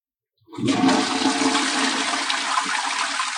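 A toilet flushes loudly, a sudden rushing gush of water that starts after a brief silence and churns steadily through to the end, with no voices.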